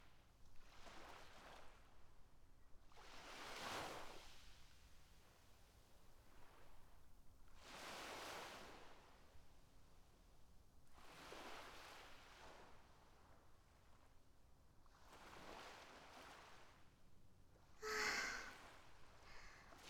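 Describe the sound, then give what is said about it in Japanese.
Soft waves wash ashore on a seaside beach in slow, regular swells about every four seconds, with a steady breezy hiss of wind between them and a brief brighter splash near the end; no one speaks. “風が気持ちいいね。”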